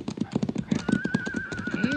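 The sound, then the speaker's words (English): A horse's hooves clip-clop in a quick, steady rhythm at the edge of a ridge, and a high, drawn-out neigh rises over the hoofbeats through the second half. “Yeah, it's a horse.”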